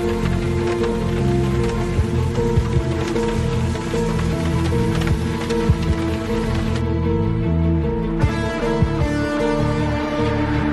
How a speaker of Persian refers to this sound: هوا تاریک و بارون شدیدی میاد.